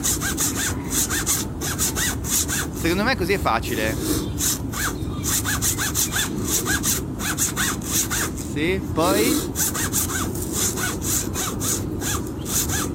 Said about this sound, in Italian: Che zip è, fra l'altro? Che zip sta usando? Stava usando la zip della taschino. Del taschino dei pantaloni.